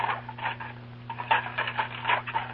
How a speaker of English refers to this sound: Yes, that's Mrs. Allen doing dishes in her kitchen. It sounds just about the same, doesn't it?